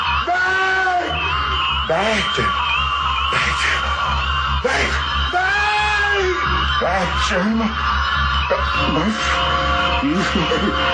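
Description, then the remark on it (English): Loud, strained screaming and wailing voices of a man backed against the far wall of a house, dying of acute fear as the front door opens, rise and fall in repeated bursts over a constant low rumble, staying intense for the whole stretch without dying away. “As the front door opens, Portefeuille backs himself up against the far wall, screams, and dies of acute fear as the scream fades to black.”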